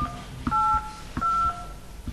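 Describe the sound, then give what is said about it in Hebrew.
Three electronic telephone keypad tones beep in an even sequence as a password is entered, each a steady two-pitched chirp lasting about a quarter second, separated by short pauses with a soft click before each press. “נא הקישו את הסיסמה שלכם ואחר כך תולמית.”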